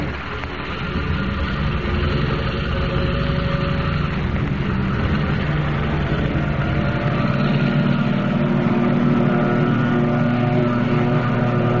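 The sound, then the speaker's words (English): A seaplane's powerful engine roars steadily throughout as it takes off from the water into the darkness, headed for the open ocean, a dense low rumble with a droning hum that builds slightly in strength toward the end. No voices. “Rising from the water like some monstrous seabird, the plane roars into the darkness, headed for the open ocean.”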